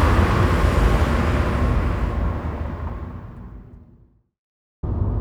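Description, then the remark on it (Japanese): A car drives and speeds up along a quiet coastal road on a weekday daytime with a loud, rumbling roar that gradually fades away into silence, then the driving noise cuts back in abruptly. No one speaks. “よーし、さらにスピードアップ。”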